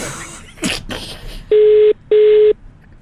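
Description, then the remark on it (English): A phone ringback tone from a call placed by the High FM radio station sounds loudly: two steady, low electronic beeps in quick succession, forming a double-ring pattern, preceded by a few brief rustling, handling noises. “It's ringing. It's ringing.”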